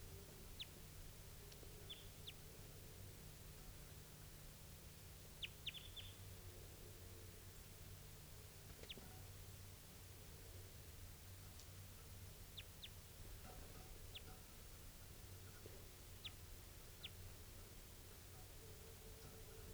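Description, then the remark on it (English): Calls of a wild type 2 bird: short, high-pitched chips and ticks scattered irregularly, about a dozen, some in quick pairs, fairly faint over a steady background hiss and low rumble. “So recording here is that same type 2 bird, wild bird.”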